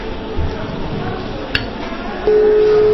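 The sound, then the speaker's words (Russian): A telephone dial tone begins two-thirds of the way in, a steady, unbroken mid-pitched hum that runs to the end, preceded by a single sharp click over a hissy background. “Гудок. Слышно?”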